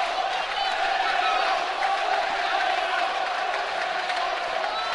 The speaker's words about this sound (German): So, die Tribüne und auch die Nord und auch die Gegengerade peitscht nochmal die Mannschaft an.